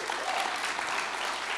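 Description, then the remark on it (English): A church audience claps their hands during a morning service in a steady, dense wash of applause that stays evenly loud throughout, with no voices standing out above it. “Just clap your hands this morning, church.”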